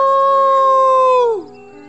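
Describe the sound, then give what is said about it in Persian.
A man's voice lets out a single long, loud imitation of a wolf howl, voicing the story character Kakraof, holding a steady pitch before sliding down and fading out. “کاکراوف زوزه می کشید و قهقهه می زد. صدا بلند کرد. اوو!”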